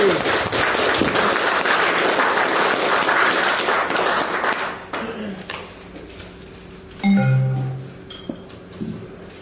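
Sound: audience round of applause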